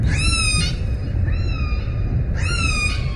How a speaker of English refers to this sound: Orca whales are some of the smartest animals on the planet. They're social, they hunt intelligently, and they're vocal.